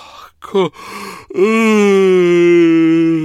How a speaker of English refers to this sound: Time for yawn.